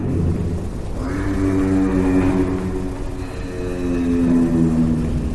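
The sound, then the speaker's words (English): A low, droning hum of giraffes communicating with each other at night in Angola, steady and continuous with layered tonal harmonics that slowly rise and fall in pitch, over a rumbling background with no talking. “No, that's not whale song, but the low hum of giraffes communicating with each other at night.”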